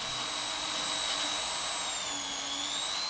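A steady, high-pitched motor whine from an immersion blender pureeing mussels into a mussel smoothie for analysis at an institute of toxicology runs without pause, its tone drifting slightly downward partway through, with a dense grinding hiss underneath.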